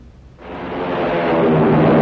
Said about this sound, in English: Hear that? It's the sound of a mighty American Airlines flagship taking off.